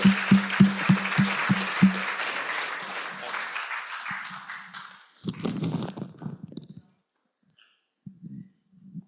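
An audience claps in a dense, steady burst of applause that tapers off after about five seconds, then people start talking.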